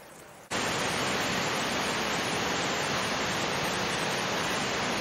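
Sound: heavy rain falling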